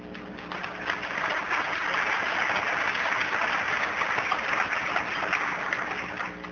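Steady applause from an audience, the speaker's wife among them, after he mentions their 40 years of marriage; many hands clapping in a dense, continuous patter that swells quickly and holds at an even level for several seconds without anyone speaking.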